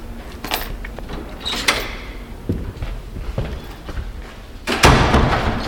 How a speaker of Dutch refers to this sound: Grote deuren. Geweldig. Nou, het is ook een gigantisch gebouw, hè?